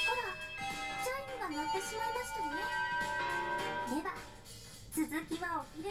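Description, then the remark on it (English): A school bell chime rings out in sustained, ringing tones throughout, with voices speaking over it and rising and falling. “Oh my, that's the bell. I'll tell you all about it at lunch break.”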